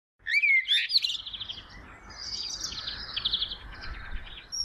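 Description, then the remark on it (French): Birds sing continuously, with bright, high chirps and trills layered over each other, and no voices present. “Écoute le chant des oiseaux.”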